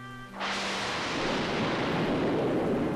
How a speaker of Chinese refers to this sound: 轰隆隆，轰隆隆，雷声越来越响，震得整个房间都摇晃了起来。